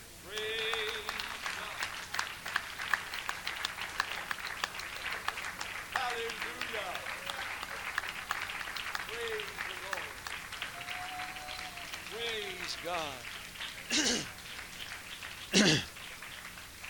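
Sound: audience applauding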